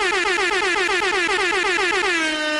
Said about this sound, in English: So there you go, some air horns coming your way in life.